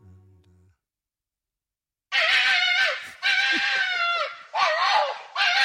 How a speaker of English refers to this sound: I played the fox noise by mistake.